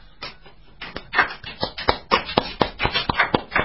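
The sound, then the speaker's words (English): A few people clapping in small, muted applause: scattered, uneven hand claps of moderate loudness that thicken slightly partway through, with no voices. “Surely far more muted applause than he deserves, but there's not many of us here, you see, so the applause will be much more.”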